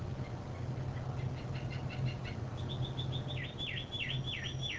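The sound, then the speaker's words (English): A male bird's learned song, high-pitched and tonal, with repeated clear whistled notes, then a series of swooping downward whistles, heard over a steady low rumble of background noise. “Each bird's song is unique because he learns it.”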